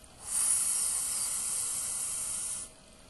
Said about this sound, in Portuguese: Coloque os seus lábios no formato da vogal U, arredondando os seus lábios. Isso. Agora, coloque a mão levemente no seu gogó e com esse ligeiro biquinho do U de uva, suga o ar como quem suga um espaguete.